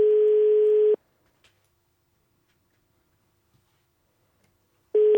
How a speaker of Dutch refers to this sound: En als het goed is, gaat nu ergens in het hoge noorden de telefoon af.